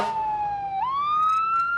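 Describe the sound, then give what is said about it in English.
A fire engine siren wails loudly as a car passes it on a main road in Cleveland, its steady tone dipping slightly in pitch and then sweeping back up, with a faint road rumble underneath and no voices. “We pass by that fire engine you heard earlier.”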